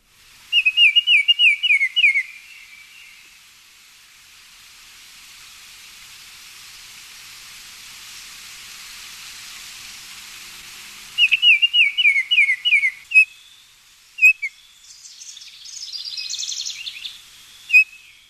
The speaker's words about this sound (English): And since we were just talking about orioles, and since I happen to have audio of Baltimore Orioles here, let's take a listen to that.